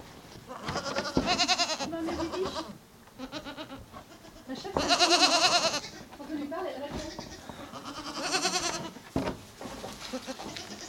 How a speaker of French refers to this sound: C'est les futures chèvres, ça. Elles sont nées cette année, elles sont trop petites pour aller au pré. Et c'est les futures chèvres de l'année prochaine.